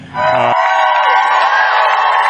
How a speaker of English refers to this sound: When we heard the cheers and the applause, and I guess the hope from the crowd that once again, as was done in 2002 and 2003, we would be able to open this shelter in the middle of the city.